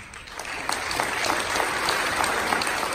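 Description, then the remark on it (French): Lively applause at United Nations headquarters in New York on 5 November 2019 for Sena Boudiouf, receiving the UN Woman Police Officer of the Year award from peace operations chief Jean-Pierre Lacroix: a dense steady patter of many hands clapping, even and fairly loud throughout, with no voices on top. “Cet éloge et les vifs applaudissements qui suivent sont pour Sena Boudiouf, qui reçoit le prix de la policière de l'ONU de l'année des mains du chef des opérations de paix, Jean-Pierre Lacroix.”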